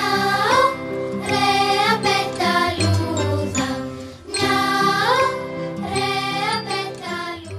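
A short, cheerful little song, in a version extended and made more cheerful, plays loudly and steadily, with bright bouncing melodic phrases over a rhythmic bass line and a brief dip partway through.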